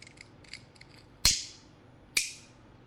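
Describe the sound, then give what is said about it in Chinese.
A lighter and a small bottle of alcohol being handled: faint ticks and rustles, then two sharp metallic clicks about a second apart, each ringing briefly. No one speaks. “酒精和打火机”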